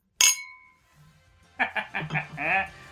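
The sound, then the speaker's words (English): A single bright clink of glasses touching in a toast, its ring fading over about half a second, followed after a pause by lively voices. “Cheers. Boom. We should clink, right?”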